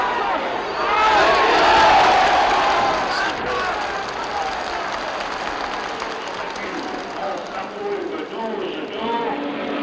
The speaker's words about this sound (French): L'arbitre de touche agite son drapeau. Monsieur Hamilton se rend à l'évidence, reconnaît le hors-jeu, siffle. La foule applaudit.